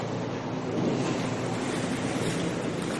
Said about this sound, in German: Und hier ist ein Touristenboot. Eine Tour.